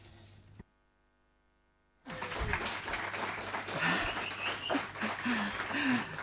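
In a town council chamber, after a brief quiet pause, the public gallery bursts into loud, sustained applause, many people clapping at once, with scattered voices and whoops mixed into the dense, steady clatter.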